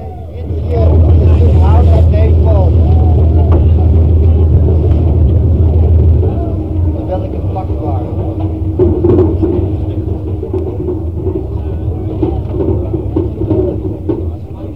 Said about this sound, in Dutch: Beetje geronk, de boot vaart nou weg van de kade, uit het kanaal, richting het ei.